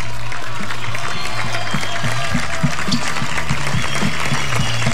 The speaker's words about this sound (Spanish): Gracias, Horacio. Un aplauso para Horacio.